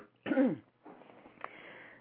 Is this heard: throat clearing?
yes